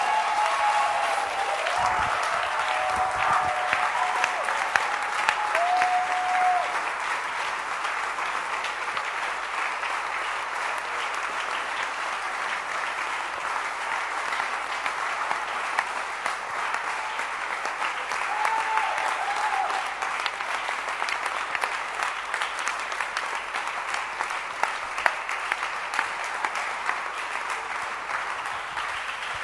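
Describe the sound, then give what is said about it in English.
Sustained applause from a large standing audience clapping for a morning church service, a dense steady wash of many hands clapping at once for about thirty seconds, with faint crowd murmur and a few brief tonal cheers mixed in. “Can you stand up and clap your hands for the service we have had this morning?”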